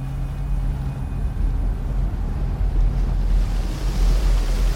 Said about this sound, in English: The waves grow so large that your tiny vessel is dwarfed, riding up and down the mighty swelling sea like a child's toy.